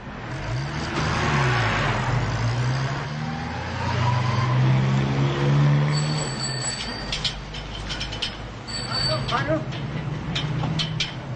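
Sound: car engine revving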